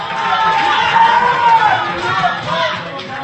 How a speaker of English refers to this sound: Just after 5 a.m., the election results from California arrived, sealing Barack Obama's victory, and the crowd burst into cheers.